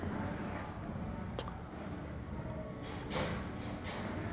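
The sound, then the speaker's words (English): Doors being pushed shut, one soft thud followed a couple of seconds later by a louder, longer closing sound, over a steady background hum. “I think I need to close those doors to the... he's got that one.”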